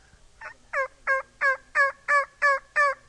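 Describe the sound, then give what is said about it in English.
A turkey caller sounds a steady run of about eight clear, raspy yelps, evenly spaced, each note loud and sharp against a quiet background. “Your turkey, tame turkey, and your wild turkey yelp alike, but there's quite a bit difference in when you go to hunting and how to get him up.”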